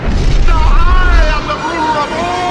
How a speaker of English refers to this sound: One of her tentacles crashes down.